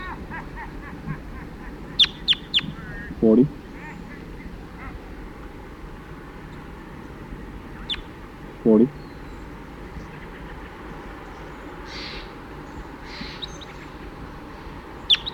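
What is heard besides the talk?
crossbills calling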